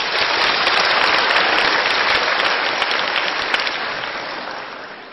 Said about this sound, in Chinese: 给他们掌声鼓励好吧。